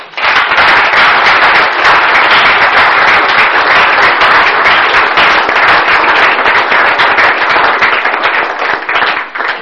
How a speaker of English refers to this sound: Okay, how come I didn't get any applause? Thanks. Nah. Not the same.